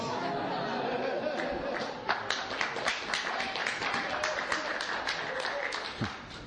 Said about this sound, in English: Why are they clapping?